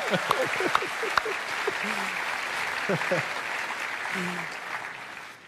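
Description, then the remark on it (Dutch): An audience claps steadily throughout after an acted scene, a dense, even patter of many hands, with a few voices and shouts briefly rising over the applause. “Ja, even applaus nog weer.”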